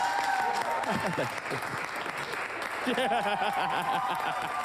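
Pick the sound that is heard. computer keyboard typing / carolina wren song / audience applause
audience applause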